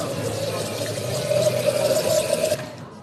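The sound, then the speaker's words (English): A steady, hissing rush of soda pouring from a dispenser in a British pub, with a faint whine running through it, lasting a couple of seconds and then cutting off abruptly. “Or the gush of soda.”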